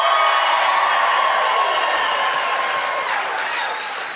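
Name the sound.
audience cheering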